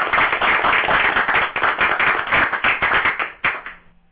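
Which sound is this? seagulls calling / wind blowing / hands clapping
hands clapping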